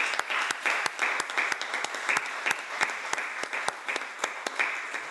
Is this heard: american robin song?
no